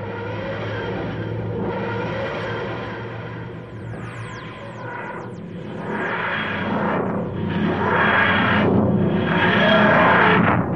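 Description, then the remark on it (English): The TARDIS time engines wheeze and screech as it dematerializes from 1936 New York, in slow, rising and falling mechanical surges, with high whistling squeals sliding through the middle, growing louder and more pulsing toward the end. “The time engines wheezed and screeched as the TARDIS faded from 1936 New York.”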